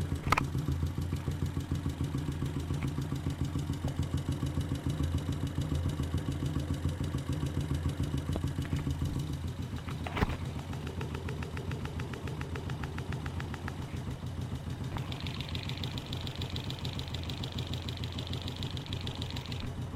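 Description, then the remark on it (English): A motorcycle engine idles steadily, its low throbbing rumble and mechanical clatter muffled, heard resounding up through the carburetors into the airbox, with a faint higher whine joining in near the end. “I'm going to start moving back towards the engine, inch by inch, to see what it sounds like at different points.”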